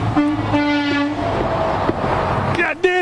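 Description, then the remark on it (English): A truck's air horn blares in long, steady harmonic blasts over the roar of heavy traffic, ending with a short, sharper honk near the end. “Hey, blow your horn. How you doing? Nobody? Nobody love me. But here come a truck.”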